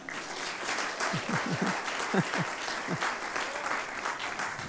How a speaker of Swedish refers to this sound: Ni har en fantastisk pastor, vet ni det? Ge honom en applåd.